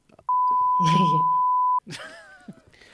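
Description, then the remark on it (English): A loud, steady censorship bleep holds a single pitch for about a second and a half, masking a name spoken underneath; a man keeps talking right after it cuts off. “Oh, and then when I was leaving, I'll beep it.”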